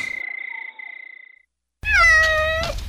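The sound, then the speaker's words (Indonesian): A new pet cat named Belang, with striped fur, gives a thin, high, wavering mew, falls silent, then lets out one loud, drawn-out meow. No voices or other sounds. “Aku akan rawat kucing baruku seperti Pusi yang dulu.”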